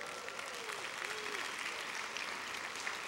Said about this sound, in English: Now that's worth clapping about. That's awesome.